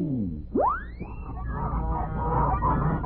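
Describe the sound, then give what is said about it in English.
A loud, rising goose honk sweeps up sharply, followed by a busy jumble of overlapping honks and squawks, like a flock of giant wild geese calling together as they fly north, over a steady background rush. “Well, since our story is the Goose Girl, how about a flock of giant wild geese flying north?”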